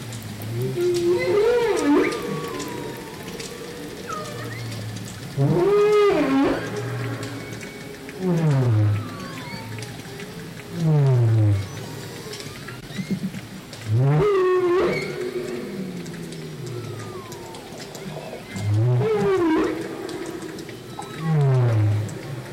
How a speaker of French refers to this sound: Alors, qui a la réponse peut-être on entend quel cétacé ? La baleine à bosse, exactement.